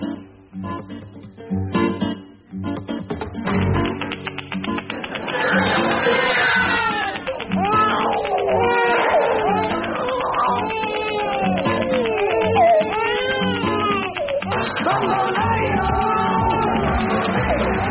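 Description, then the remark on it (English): A large crowd in a stadium cheers loudly for its favorite competitor taking to the ice, with overlapping shouts, yells and whoops rising into a sustained roar that stays steady and full for most of the stretch. “And what a magnificent reception. Just listen to that.”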